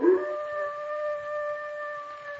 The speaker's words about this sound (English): Listen. That sounded like a dog howling.